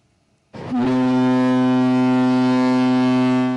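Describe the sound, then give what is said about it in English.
The scientific drilling ship Chikyu's horn blasts as it leaves Shimizu Port in Shizuoka Prefecture, Japan, in one long, loud, deep and steady tone after a brief rising onset, holding without a break to the end, with no voices present. “The scientific drilling ship Chikyu left Shimizu Port in Shizuoka Prefecture on Monday.”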